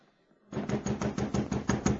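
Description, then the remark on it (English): After a brief quiet moment, around midnight, a fist pounds on a wooden door in a rapid, steady run of about nine loud thuds, with no voices. “Well, along about midnight, I heard someone pounding on the door.”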